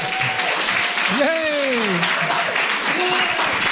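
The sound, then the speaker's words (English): A round of applause for the Donegal Horizons show in Letterkenny: dense, steady clapping fills the whole stretch at a fairly loud level, with a brief rising-and-falling vocal cheer cutting through in the middle. “Any chance of one last final round of applause?”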